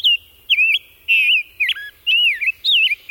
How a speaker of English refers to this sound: Head west to the Chicago Birding Trail to savor the songs of the rose-breasted grosbeak.